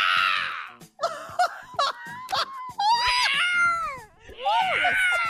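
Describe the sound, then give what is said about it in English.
A human voice imitates an injured cat, letting out a series of loud, strained yowls and wails that rise and bend in pitch, with brief gaps between cries. “When he's done, he yells like an injured cat.”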